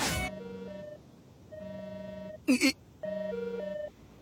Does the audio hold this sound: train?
no